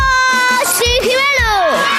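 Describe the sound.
A group of children at the school entrance, running, shout and cheer together, their high-pitched voices overlapping in loud, sustained cries that rise and fall in pitch over about two seconds.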